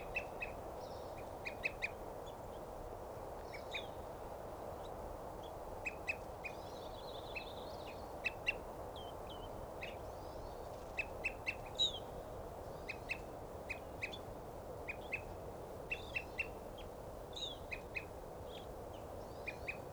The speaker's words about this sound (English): And there's a evening grosbeak there.